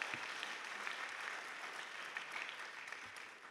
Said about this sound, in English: Now, my task, right, you can applaud that.